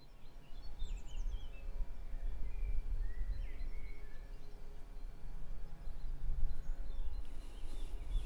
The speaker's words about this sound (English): Birdsong and a lawnmower keeping me company, looking out over the coast, and a really, really wonderful view here in Monteconaro near Ancona, near the town of Cirolo